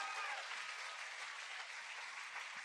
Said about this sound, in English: Give yourselves a round of applause and thank you,